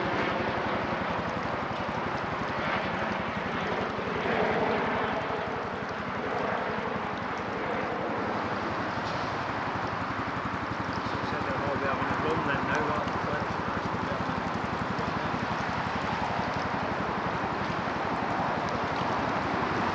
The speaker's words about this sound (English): For such an apparently simple boat, using an inboard petrol engine